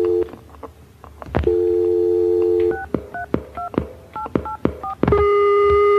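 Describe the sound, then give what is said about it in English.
A steady telephone dial tone hums, broken by a quick run of about ten short two-pitch keypad beeps with clicks as a number is dialed, then the tone resumes, fairly loud with no talking. “Why can't I get a number? Because right? The phone's been cut off because I don't pay the bill.”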